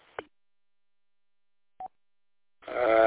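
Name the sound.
radio repeater beep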